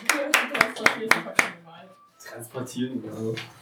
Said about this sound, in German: Also ich glaube erstmal noch mal einen Applaus für die Sänger, oder?